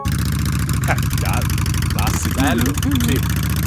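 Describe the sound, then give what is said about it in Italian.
A Harley-Davidson motorcycle engine idles with a deep, throbbing rumble that holds steady throughout, while a voice briefly sounds over it near the end. “Tra queste, gli ingegneri hanno pensato di avvicinare il marchio alla comunità LGBTQI+, aggiornando l'iconico rombo del motore, passando da...”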